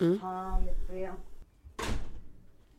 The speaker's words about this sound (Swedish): Vänta, jag måste stänga dörren.